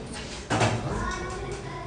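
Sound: door being shut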